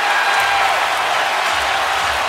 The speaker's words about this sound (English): So the crowd is louder after JR makes the three than it is when Mike Breen says that it's bedlam here in Cleveland, when it doesn't actually sound, as a home viewer, that it really is